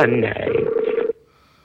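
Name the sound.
skype call ringing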